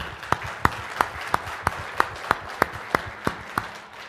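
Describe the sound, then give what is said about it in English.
Steady applause at a conference for the program committee: a crowd's soft clapping wash with one sharp, evenly spaced clap cutting through about three times per second, holding a regular beat for the whole stretch. No one speaks. “I'd like to ask for a round of applause for the program committee.”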